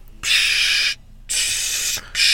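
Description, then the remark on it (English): Three bursts of loud, bright gas hissing as nitrous oxide rushes into balloons, each lasting under a second with short quiet gaps between them, heard outside as a show is ending, with no talking. “She said, are those the nitrous balloons that you talk about?”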